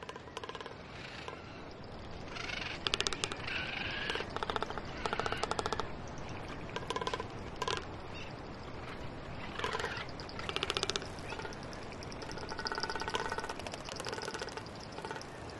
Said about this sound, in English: And what he does, he has a red throat pouch that he can inflate, and he can make a drumming sound with it. So you hear the clapping of his bill, and you also hear the drumming that's coming out of that pouch.